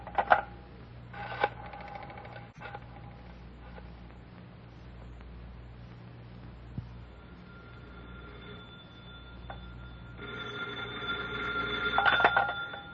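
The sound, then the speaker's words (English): Clicks and short bursts as a telephone is dialed, then a steady stretch of low hum before a bright, buzzing ring rises near the end. Nobody speaks. “Hand me the phone.”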